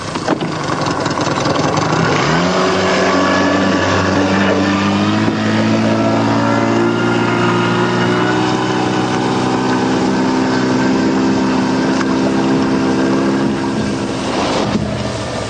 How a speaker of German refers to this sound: Es ist besser, wenn wir den Motor abstellen. Das Geräusch verrät uns. Wir müssen jetzt paddeln.